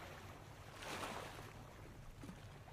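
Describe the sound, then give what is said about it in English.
Steady wash of sea waves around a boat rocking back and forth, with a low rumbling hum and a gentle swell in loudness as water sloshes against the hull; no voices, just continuous ocean ambience. “The sea rocks the boat back and forth for a while.”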